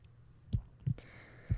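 heartbeat

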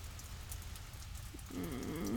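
rain falling

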